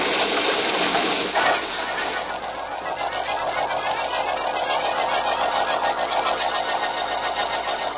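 A car engine turns over with a brief burst of noise, then settles into a steady, rattling idle hum that continues without a break to the end. No voices are heard.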